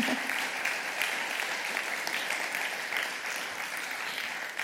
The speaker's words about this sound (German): ihr dürft gerne mal fett klatschen.